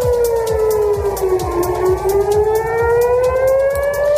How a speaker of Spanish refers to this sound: Es el sonido de las alarmas antiaéreas que están sonando en varios puntos al sur de Israel, así como en Jerusalén y en Tel Aviv.